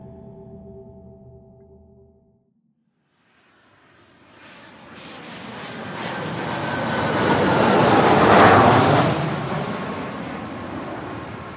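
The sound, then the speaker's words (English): A jet airliner descending into SFO roars overhead, the broad engine noise swelling to a loud peak and easing slightly, preceded by a brief low droning hum and a moment of silence. “What these passengers will soon find out as they descend into SFO is that the wrinkle has transported them 20 years into the future, and the year is now 2040.”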